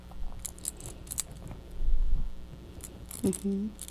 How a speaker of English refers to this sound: Kind of like mama's keys, huh? They make noise.